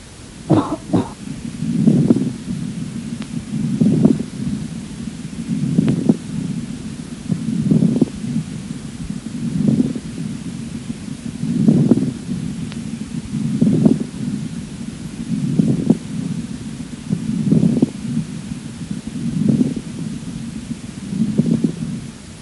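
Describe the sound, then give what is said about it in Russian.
Chest auscultation of a patient with acute bronchopneumonia, after coughing: fine moist crackling rales riding on harsh, rhythmic breathing: a low whooshing breath roughly every two seconds, with brief sharp clicks and pops scattered through it. No voices. “После покашливания характер хрипов изменился.”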